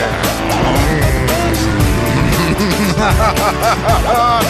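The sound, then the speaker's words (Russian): Loud, continuous roar of racing car engines revving up and down in rapid sweeps, with sharp bursts of tire squeal cutting through, busy throughout with no talking. “Дамы и господа, заводите свои моторы.”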